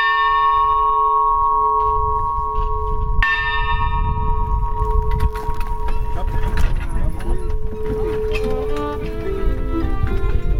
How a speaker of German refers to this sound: Zwei Glockenschläge und die Fahrt beginnt.